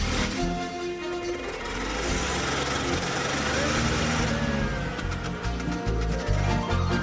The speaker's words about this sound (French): Mec si beau, mec si beau, mais quand une intrigante lui fait l'œil de velours, il enfourche un scooter et il accourt.